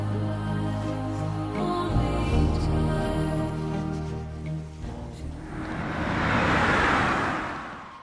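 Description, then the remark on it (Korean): A car engine hums steadily, its low rumble shifting as the vehicle slows to stop in a parking lot by the sea, then fades into a broad hiss of wind or surf by the end. “자동차를 주차장에 세우고 우리는 바다로 나갔다.”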